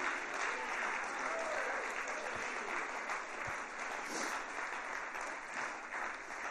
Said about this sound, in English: Now all of you clapped on that.